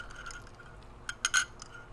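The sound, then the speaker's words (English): A few bright, ringing glass clinks cluster together in quick succession over a faint, steady background, as a drink of gin is poured; no one speaks. “Pause for brain fart and gin.”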